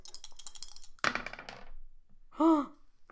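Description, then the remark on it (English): Bright green dice, rolled for a skill check, rattle and clatter across a hard tabletop in quick clicking bursts, with a louder tumble that settles into scattered ticks, followed by a brief excited vocal exclamation. “Thank you, bright green mad science dice.”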